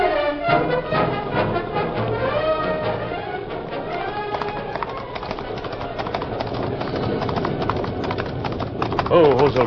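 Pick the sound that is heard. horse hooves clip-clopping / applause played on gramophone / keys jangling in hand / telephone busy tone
horse hooves clip-clopping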